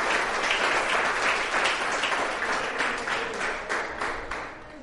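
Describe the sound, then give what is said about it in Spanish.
A crowd of young people claps steadily in a dense, continuous wash of applause, holding strong for several seconds before tapering slightly toward the end. “Démosle un aplauso.”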